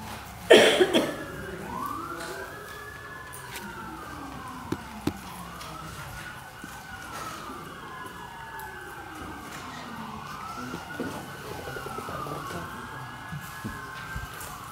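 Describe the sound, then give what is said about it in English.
Emergency vehicle sirens wail in repeating rising and falling sweeps as they go by, steady in volume, with faint traffic rumble and a few brief knocks underneath. “I'll let the sirens go by.”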